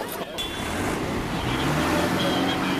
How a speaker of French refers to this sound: Hop, ils amènent les tracteurs. Ouais. Allez. Allez. Allez. Tracteur contre les grilles.